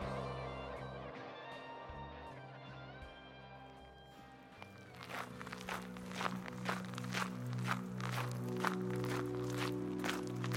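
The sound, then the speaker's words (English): Steady footsteps of a person walking to a bus stop start about halfway through, roughly ten even, crisp steps in a regular walking rhythm. They follow a stretch of sustained low musical tones that continue faintly underneath. “I walk to the bus stop.”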